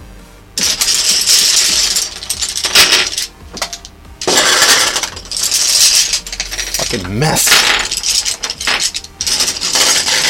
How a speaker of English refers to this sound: Now's the part of the show where you get to hear me, hold on, you get to hear me put away all these colored pencils that are laying all over my desk. They're driving me nuts. They're laying out. They're not in the can thing.